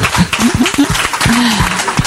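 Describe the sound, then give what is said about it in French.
Steady, dense applause from a crowd, a continuous clatter of clapping with a few voices calling out and cheering over it, welcoming master of ceremonies Michel Arosa at a special show on the Festival des héros du cinéma in Cap d'Agde. “Le maître de cérémonie, comment faire une émission spéciale Festival des héros du cinéma du Cap d'Agde sans Michel Arosa, s'il vous plaît, sous vos applaudissements.”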